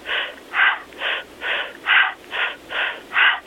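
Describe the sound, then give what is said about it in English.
Quick, rhythmic breaths pushed through a narrow opening as if breathing through a straw, a breathing technique, about eight airy, hissing puffs in steady succession, each a short whoosh with a thin, reedy edge and brief gaps between them. “I may have them do, let's say, I say breathe through a straw, like you're breathing through a straw, and it sounds like...”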